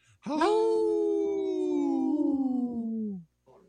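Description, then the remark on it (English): People howl like wolves, a single long, loud wail rising quickly then sliding slowly downward in pitch for about three seconds, unaccompanied before cutting off. “Howl! Ricky, you didn't howl with us”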